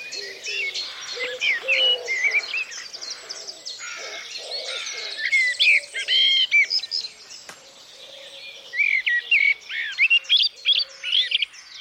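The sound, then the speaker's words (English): A dense dawn chorus of many birds singing at once, bright overlapping chirps and trills filling the air without pause, with softer low cooing calls underneath. No one speaks. “Out of the silence, just before dawn, you would find the threads of hope as the breath of birds became song.”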